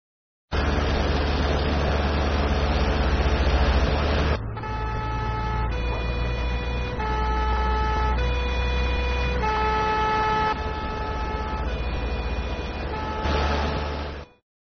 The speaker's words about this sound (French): Dans cette situation, ce camion de pompier va porter secours.